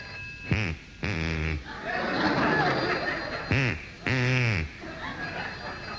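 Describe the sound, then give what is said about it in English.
Four loud, nasal quacks in two pairs from a duck in Pevensey taught to answer the telephone, each call swooping downward in pitch, over a steady high electronic tone of a ringing telephone and a busy murmur of background noise. “A man in Pevensey has taught a duck to answer the telephone.”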